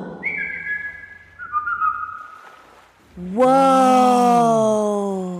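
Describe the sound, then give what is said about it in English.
A person whistles a family call of two steady notes, the second a step lower, clear. After a brief pause, a loud, drawn-out voiced cry rises and then slowly falls. “How about a family whistle?”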